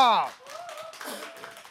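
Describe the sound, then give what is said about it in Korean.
An audience claps to welcome a live song performance, in a steady, dense patter after a rising whoop at the start, with voices and a held tone carrying over the applause. “박수로 청해 드리겠습니다.”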